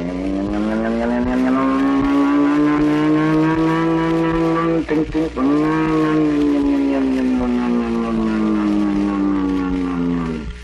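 A trolley car heading to the city rolls steadily along, its electric motor giving a loud, continuous whine that slowly rises and falls in pitch, with a brief stutter partway through.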